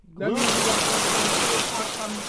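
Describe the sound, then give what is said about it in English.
Steady, dense rain hisses in abruptly and keeps pouring at an even, fairly loud level, with a voice faintly audible beneath the downpour. “It's rainy.”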